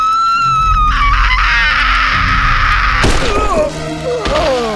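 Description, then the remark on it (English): A man lets out a loud, harsh, shrieking scream imitating a Reaper, sustained for about three seconds before breaking into rougher, wavering cries mixed with a heavy thump. “His imitation of a Reaper scream had worked once before, a dozen years ago, several hundred miles north in the hills of western Illinois.”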